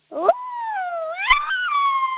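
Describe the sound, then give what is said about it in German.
A person mimics an angry, evil wolf howl: one sustained vocal wail lasting about two seconds, gliding up and down in pitch, with a couple of harsh, growly breaks in the voice. “Okay, und jetzt mach noch einen bösen Wolf draus.”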